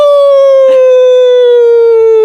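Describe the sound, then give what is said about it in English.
A person howls like a wolf: one long, loud, steady note sliding slowly downward across about two seconds, with a brief soft noise partway through. “Shall we say send a little goodbye to Mr. Wolf?”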